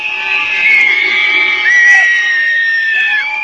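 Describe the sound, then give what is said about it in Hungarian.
A dense, noisy protest crowd in Hungary with shrill whistles, rattles and blaring horns growing louder as Prime Minister Viktor Orbán steps to the podium, over a constant roar of shouting and cheering, loud and continuous throughout. “A sípok, a kereplők és a dudák hangja felerősödött, amikor Orbán Viktor lépett a pulpitushoz.”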